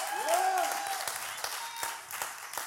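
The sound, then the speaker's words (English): An audience at One Tribe church breaks into steady, dense applause with scattered sharper claps, while a rising-and-falling whoop or whistle rings out near the start. “How did she do by way of applause?”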